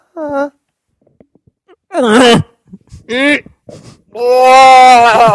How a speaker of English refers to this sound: Goat orgasm. All right, goatgasms.